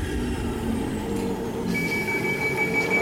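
A pneumatic tube delivering a capsule: a steady rush of air over a low mechanical rumble, joined partway through by a thin, sustained high whistle. No one speaks.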